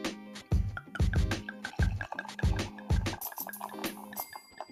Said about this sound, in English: So yeah, here's some wine pouring ASMR.